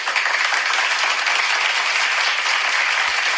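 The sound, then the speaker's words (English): Steady applause from a crowd, many hands clapping at once in a dense, continuous hiss-like patter that holds at an even, fairly loud level for a few seconds, with no voices. “I applaud you.”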